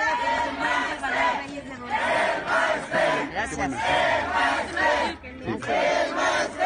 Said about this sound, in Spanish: Le gritan presidenta a una mujer que se robó 2.600 millones de pesos de los profesores y que la han responsabilizado de la crisis educativa que tenemos en el país.